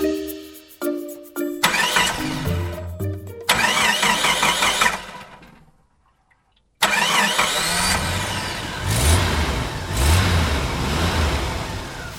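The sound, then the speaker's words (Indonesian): A father starts the family car's engine before a trip to the beach: it cranks and turns over, catching into a loud running idle with revs, then cuts briefly before roaring back up, with no talking. “Ayah menghidupkan mesin mobil yang akan digunakan mereka pergi ke pantai.”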